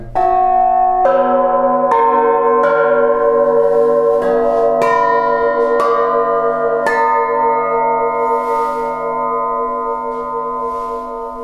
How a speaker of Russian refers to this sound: Ну, мои колокола – это гильзы пушек и немцев, и советские. А снаряды вылетели уже во время войны.